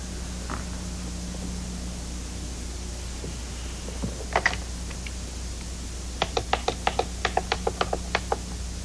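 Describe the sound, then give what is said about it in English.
A telephone handset is lifted with a short clatter, then a quick series of about a dozen sharp, evenly spaced clicks as a number is dialed to call parents, over a steady low hum. “And you can start by showing me how adult you are by picking up that phone instead of that piece of paper.”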